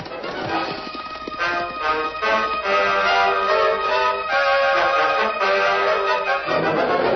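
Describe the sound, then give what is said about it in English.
Horses' hooves clip-clop in a steady riding rhythm, fairly loud, as riders travel along Bitter Creek Pass, with a sustained, tonal musical background running underneath for the whole stretch. “It seems funny to be riding along Bitter Creek Pass and not see any water.”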